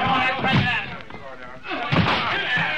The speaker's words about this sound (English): All right, everybody, we've got to break that door in.